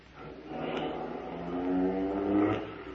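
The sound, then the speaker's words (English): A getaway car engine revs up and accelerates as robbers flee a bank, its pitch rising steadily as it gets louder over a few seconds, fairly loud with no voices. “We backed out of the bank and ran for the car parked at the curb.”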